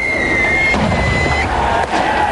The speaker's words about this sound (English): The sound of fireworks being thrown at police lines on the hill at Drumcree.